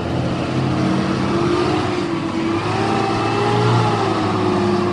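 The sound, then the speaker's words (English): An empty city bus, with only the driver aboard, idles loudly in the street right next to the listener, its steady low rumble swelling as the motor revs up and eases back a couple of times, with no voices over it. “There's actually one idling in the street right next to me right now.”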